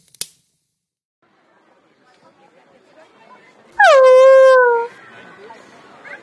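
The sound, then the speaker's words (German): At a Christmas market, a dog gives one loud, drawn-out yelp that slides down into a whine as someone nearly steps on it, after a sharp click and a stretch of faint background murmur, then trails off into quieter noise. “Sie wären ja fast auf meinen Hund getreten.”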